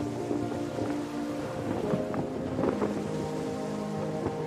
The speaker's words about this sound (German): Zwischen dicht bewachsenem Dschungel und sandiger Küste öffnet sich eine kleine Bucht. Es ist das Hafenbecken, das unsere Fahrt zu einem jähen Ende bringen wird. Langsam nähern wir uns einem der Stege und legen an.